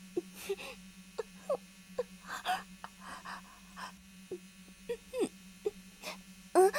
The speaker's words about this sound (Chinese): 你说好像有嗡嗡声。蚊子吧，夏天最容易出蚊子了。